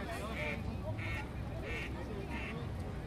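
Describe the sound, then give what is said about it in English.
Four quick quacks from ducks at Launch Bay repeat at an even pace, near and moderately loud, over a busy outdoor background with indistinct voices murmuring. “There's some ducks near us here.”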